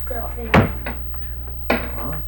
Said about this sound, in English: Now, when you open the door, you hold on to the door.